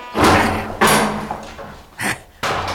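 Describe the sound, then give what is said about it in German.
Several heavy, booming thuds of a door slamming shut, loud, spaced irregularly over a couple of seconds with a rumbling resonance between them and no voices. “Zum Hinterausgang, schnell! Tür zu, Bob! Tür zu!”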